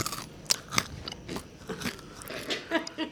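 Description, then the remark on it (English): Dry, brittle crunching as someone bites into a hard Old World Monkey pellet that looks like a dog biscuit and chews, a run of sharp crackly crunches at an uneven rhythm, with a few softer chewing sounds between them. “A dog biscuit, really. Are you sure this is edible?”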